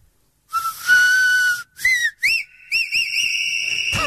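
Loud, shrill 150-decibel whistle blasts: a long steady tone, two short rising toots, then a sustained warbling trill, all high-pitched with bright overtones and no talking.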